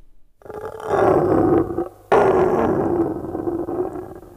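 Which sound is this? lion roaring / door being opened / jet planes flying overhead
lion roaring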